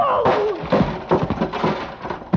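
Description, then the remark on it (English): A heavy steel pulley block, swung by a man, slams into another man's body with dull thuds, several blows landing in quick, uneven succession after a brief falling swish at the start. “I dropped to the floor and heard the thing connect behind me.”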